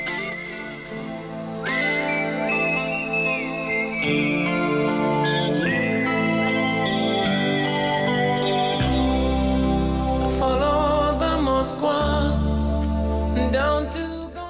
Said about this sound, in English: It's almost mournful whistling, isn't it?